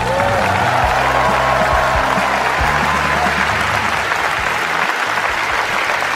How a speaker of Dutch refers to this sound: Ja, applaus, applaus.